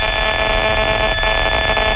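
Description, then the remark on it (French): An electromagnetic field detector nicknamed the 'cricket', which chirps when it picks up mobile phone relay antennas, gives off a loud, continuous electronic buzzing chirp, a dense stack of steady high tones wavering slightly throughout, with no voices. “Alors lui, il chante quand il entend des antennes relais.”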